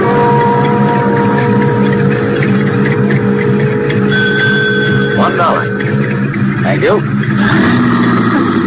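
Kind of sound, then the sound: vehicle, car engine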